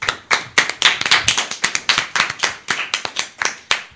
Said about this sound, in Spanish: Así que un aplauso para él.